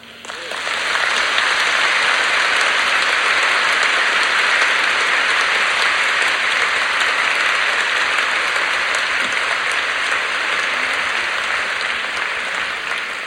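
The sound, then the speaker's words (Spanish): Sustained applause from a sizable audience for a group of priests, steady and loud for over ten seconds, a dense wash of clapping with no voices rising above it. “Cada uno de estos sacerdotes ha entregado su vida por Cristo. Así que merecen un aplauso.”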